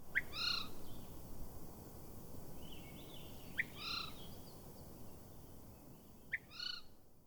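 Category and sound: bird, bird alarm call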